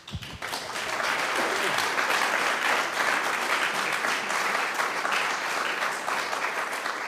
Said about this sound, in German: Gut, der Beifall sagt ganz deutlich, das war sozusagen ein guter Satz und für unsere Sendung ist es ein gutes Schlusswort, würde ich meinen.